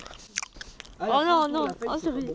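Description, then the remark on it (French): Crisp crunching of someone biting and chewing a raw, wild leaf that is completely round with slightly notched edges and its base in the middle. A few quick bites come in the first second, followed by a voice speaking over the end. “C'est une feuille qui est totalement ronde, un petit peu avec des créneaux sur les bords, là. Et la base de la feuille, elle est au milieu.”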